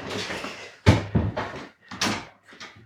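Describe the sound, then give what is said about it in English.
The front door of a house is handled: a latch rattles and the heavy door swings open, followed by a few thuds and creaks as it is pushed shut again, with no one speaking. “We've come through the front door of the house, main door through which guests and visitors were admitted.”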